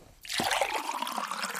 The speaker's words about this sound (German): Oh. Moment, ich hole mir schnell ein Glas Wasser.